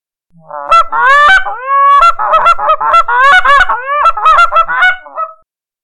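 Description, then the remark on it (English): A flock of Canada geese flying at night honks continuously, many overlapping nasal calls layered into a loud, busy chorus that carries on for several seconds before fading out. “A flock of Canada geese honk to each other as they fly at night.”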